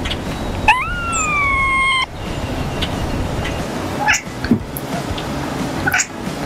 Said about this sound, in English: But a third theory speculates that these strange, high-pitched sounds may be an attempt by the cat to mimic the types of sounds their prey emit.